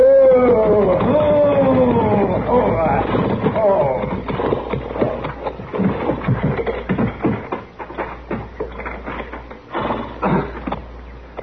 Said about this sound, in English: There's a wagon pulling into the yard. Why, that's the same... Same what? He's a peddler. Tinware and stuff.